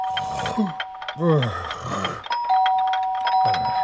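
A doorbell rings with a steady, sustained electric tone, briefly pausing and then ringing again, while voices speak underneath at moderate volume.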